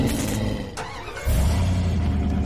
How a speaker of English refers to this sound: hops in the driver's seat and tears off.